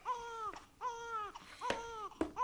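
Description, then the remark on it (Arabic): A young child cries in repeated, drawn-out wails, each rising then falling in pitch, fairly loud with brief gasping breaks between them and no talking. “ألي أجل هذا يبكي …؟”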